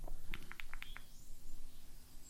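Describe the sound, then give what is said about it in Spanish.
A progressive phone alarm tone of birds chirping that starts slowly and gradually rises in volume: a quick run of about six short, high tweets in the first second, then a thin rising whistle, fairly quiet over a faint background hum. “Voy a hablar un poco y cuando se ponga a activar un poco más el volumen, la cosa es que empieza de forma progresiva a sonar sonidos de pajaritos, fijaros.”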